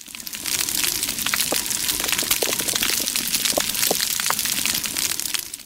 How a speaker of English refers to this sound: We're back underwater again, of all things. Oh. Is that... coral growing. That counts. It's coral reef.